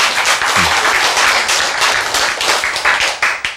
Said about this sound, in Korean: 그 박수 보내야 돼. 그렇죠? 예.